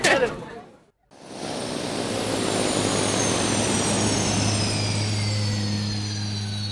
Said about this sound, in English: looking at a fox bat. It's not an ultralight aircraft. It's a pure straight out, pure aeroplane. But its maximum all-up weight that I'm allowed to fly it at is 600 kg,